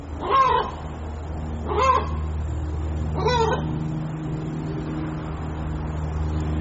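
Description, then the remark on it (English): A chicken lets out three loud, harsh squawks, evenly spaced a little over a second apart, over a steady low engine-like hum that carries on alone afterward. “Ladies and gentlemen, I got a chicken over here that is about to drive me nuts.”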